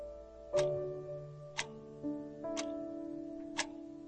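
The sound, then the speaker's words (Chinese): A clock's second hand ticks four times, one sharp click each second in an even rhythm, over a faint, steady humming tone in the background. “学习超念平安，听到自己的心跳，听到钟表的秒针的声音。”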